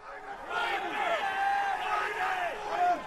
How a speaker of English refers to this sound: That's the din at the pit at the New York Mercantile Exchange, where they trade oil futures, screaming numbers that determine all kinds of things in our reality.